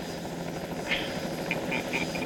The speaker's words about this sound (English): Yeah, this is what I'm adding to our zombie survival team. Yeah, this helicopter flying.